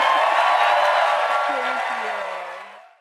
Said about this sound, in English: And give this lady, real lady, this clap.